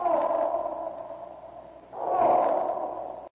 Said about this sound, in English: Over here, O'Rourke. Kyloop, the elephants won't hurt you. Kyloop, don't run. Them brutes will kill you.